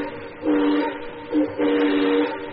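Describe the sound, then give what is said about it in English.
A model railroad train whistle, on Mr. Claimbroth's layout with tracks running all around a room, toots three times: a short blast, a quick one, then a longer held note, breathy and mid-pitched over a steady hiss, with no voices. “It's his railroad. We have tracks all around the room.”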